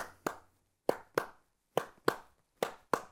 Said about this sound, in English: If I clap a different beat,